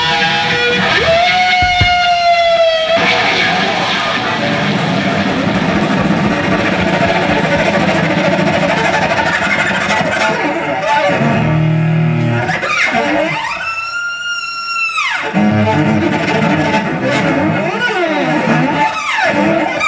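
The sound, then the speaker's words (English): Loud, heavily distorted electric guitar plays a protest song continuously, with dense sustained tones and dramatic sweeping pitch bends and dives, staying intense for the whole stretch. “The guitar playing is really, as an instrumentalist, I'm really into it in terms of the virtuosity, the power of it, just the sound.”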